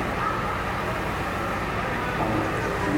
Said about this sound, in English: And there goes the bus.